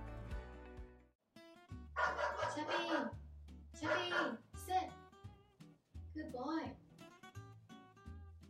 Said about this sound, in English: Sorry, Chubby was barking at people outside.